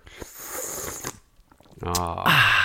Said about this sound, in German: Ich schlürfe mal ins Mikrofon.